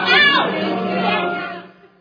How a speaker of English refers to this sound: And you heard the crowd kind of go, oh, brother, sit down.